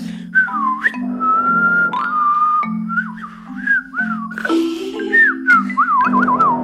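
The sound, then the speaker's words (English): Someone whistles a lively melody with bends and a quick warbling trill, clear, over a steady low accompaniment throughout. “when I hear somebody whistling, I think this person feels good, even if it feels like nervous or something, it still like calms you down.”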